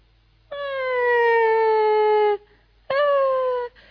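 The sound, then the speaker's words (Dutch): A newborn baby boy cries in a stable in Bethlehem in two loud wails, the first long and slowly sliding downward in pitch, the second shorter, with no talking around them. “Oh, er klinkt een klein babyheiltje.”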